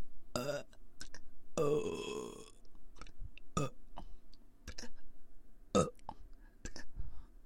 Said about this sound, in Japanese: 鼻に来ちゃいました。こんな感じですかね、炭酸水飲んで出すゲップは。